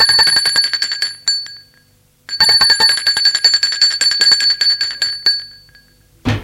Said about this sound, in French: On a sonné à la porte.